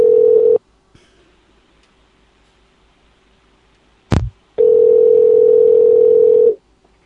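Ringing tone of a call to a guest on the Friday Night Live show: a steady, low electronic hum sounds briefly, falls silent for several seconds, then after a sharp click returns for about two seconds. No voices.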